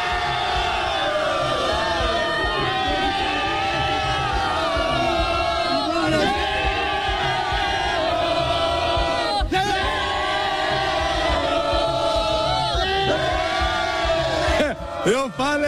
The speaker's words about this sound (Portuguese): Agora, você sabe o que a Nação Celeste, que tá aqui comigo, vai cantar? Eu quero ouvir aquele grito de zero aí, galera. Manda aí, vamos lá. Zero!